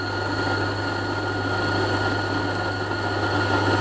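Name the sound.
coffee grinder grinding beans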